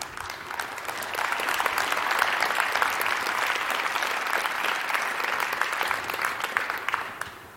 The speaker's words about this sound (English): I've given that talk in front of many regulators. You're the first ones to applaud. I really liked it.